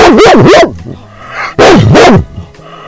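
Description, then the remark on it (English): A female dog named Ranger barks loudly in two bursts of rapid, yappy barks separated by a brief pause, with a faint whimper in between. “Boy, she's barky tonight.”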